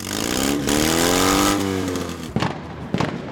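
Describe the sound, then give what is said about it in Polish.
A loud, modified car engine revs hard, its pitch climbing and falling through a sustained roar, followed by two sharp pops or bangs from the exhaust near the end. “Polskie prawo zupełnie nie ogranicza modernizowania samochodów i motocykli w taki sposób, żeby one wydawały, nazwijmy to delikatnie, dużo głośniejsze dźwięki.”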